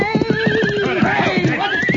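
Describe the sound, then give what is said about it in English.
Horse hooves clop in a quick, steady rhythm as a rider comes along a trail, while a horse lets out a long, wavering neigh over the top, fairly loud throughout. “Rider's coming this way on the trail.”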